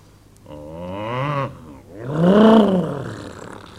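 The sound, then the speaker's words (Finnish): Two drawn-out, deep growling roars, the second louder and longer, like bears snarling, with a brief pause between them and no other sounds around; the growls are of Martian bears. “Purisevat marsilaiset karhut.”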